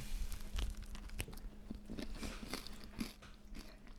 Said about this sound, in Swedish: nu får du ta en tugga där.